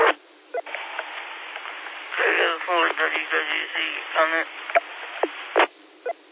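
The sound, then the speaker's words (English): A ham radio transmission in a tool truck crackles to life: band-limited, tinny voices speak in bursts over steady hiss, punctuated by sharp clicks and squelch pops, fairly loud throughout. “How many people get in my tool truck and hear this radio go off and, oh, you got your CB going?”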